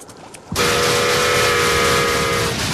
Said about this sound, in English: The covered bridge. Puffing smoke, the train barrels through the quaking model. Dead man's curve.